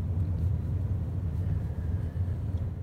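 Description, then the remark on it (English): A steady, low rumble of downtown street traffic at 8th Street and Red River, continuous engine and road noise droning without a break, fairly loud, with no voices. “We're at 8th Street and Red River. Still lots of traffic.”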